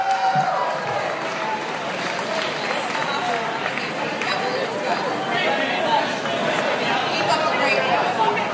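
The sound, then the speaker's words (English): An audience applauds steadily for several seconds for SPSC CrossFit, the People's Choice winner from St. Petersburg, a dense wash of clapping blended with crowd chatter and a few scattered cheers, holding at an even, loud level throughout. “One more round of applause to your People's Choice, SPSC CrossFit!”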